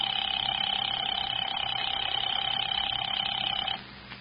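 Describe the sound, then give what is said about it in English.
A telephone rings on and on unanswered with a steady, continuous electric tone, fairly loud and unbroken, then cuts off abruptly near the end. No one speaks. “Still ringing? Yeah.”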